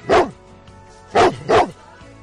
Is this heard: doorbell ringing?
no